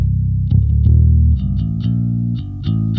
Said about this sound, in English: Can we hear like the bass tone without any kind of distortion? Sure. Yeah. Because I'm curious to hear what this pedal sounds like.